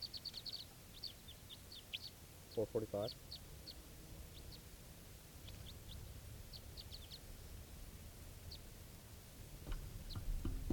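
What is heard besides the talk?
wild birds calling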